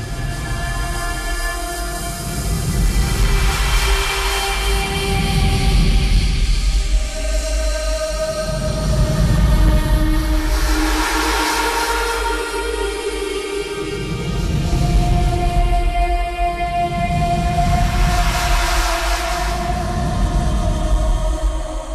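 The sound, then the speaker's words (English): A pop song slowed down 800 times into an ambient drone: sustained, slowly shifting tones swell and fade over a steady low throbbing pulse, continuous and enveloping, with no voices. “People are online, are taking pop songs and slowing them down by 800 times to create actually then what sounds like, you know, artsy, experimental, you know, whale songs or something.”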